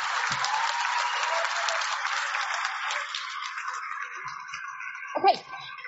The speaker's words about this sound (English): You guys, when you clap, it takes time.